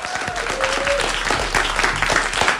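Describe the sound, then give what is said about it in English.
An audience applauds steadily, a dense, even wash of many hands clapping at once that stays fairly loud from start to finish with no clear break. “Give us a big round of applause again, guys.”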